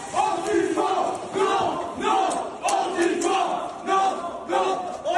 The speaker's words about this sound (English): They destroyed the memorial. That's them screaming Antifa, which is anti-fascist. Can you ever imagine doing the same at a memorial for a 12-year-old girl?